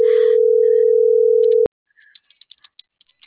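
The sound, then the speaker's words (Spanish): A loud, steady telephone tone holds for about a second and a half, then cuts off abruptly, leaving near silence broken by faint scattered clicks, as the call is transferred to voicemail. “Tu llamada está siendo transferida y se cobrará al terminar los tonos siguientes.”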